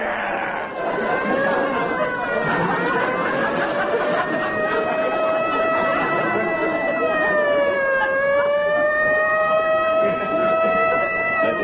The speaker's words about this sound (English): Hey, here come the fire engines.